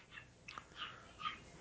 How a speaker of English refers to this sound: I hear a dog going crazy in the background.